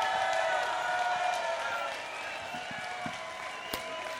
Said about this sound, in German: Nochmal einen riesigen Applaus für Claudia Roth.